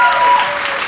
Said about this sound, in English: a round of applause for all her hard work.